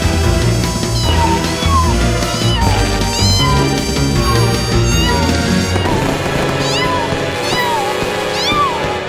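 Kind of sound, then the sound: animal, small cat meowing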